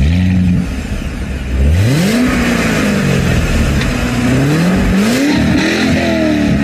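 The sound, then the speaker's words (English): A new Corvette C8 sports car engine revs loudly, its pitch climbing and dropping in several throttle blips over a steady rumbling idle, with no voices. “The fact of the matter is, the new Vette, I think it's a C8 model, I'm not 100% sure what they call it, is probably one of the most advanced cars”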